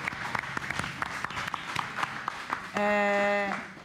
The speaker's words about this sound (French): Est-ce qu'on peut applaudir quand même ça ?